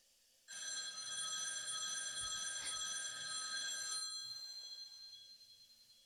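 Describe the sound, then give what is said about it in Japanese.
An old black rotary telephone bell rings loudly and continuously, unanswered, a harsh metallic trill starting abruptly and sustaining for about four seconds before trailing off, with no voices. “電話は変わらず、ジリリリリリリリリリリリリリリリリ。”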